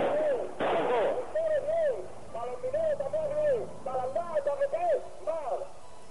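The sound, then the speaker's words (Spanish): A loud firecracker blast set off by protesting miners bursts out near the start amid a street protest of miners and cotton growers, followed by continuous shouting and chanting voices from the crowd. “Vámonos, los algodoneros aplaudiendo los petardos de los mineros.”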